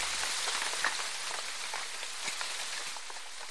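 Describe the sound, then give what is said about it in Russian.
Steady, dense rain pours down, a continuous hiss of countless drops pattering on a hard surface, with small splashes flickering through it and no voices; rain that has started and soon turned into a real downpour. “Начался дождь, и вскоре он перешел в настоящий ливень.”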